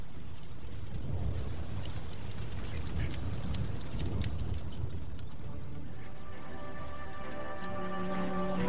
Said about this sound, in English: I had seen the posters up in town. A true classic. Come see it actually rain on stage. It's an ambitious high school production of the Gene Kelly, Donald O'Connor, Debbie Reynolds movie, Singing in the Rain.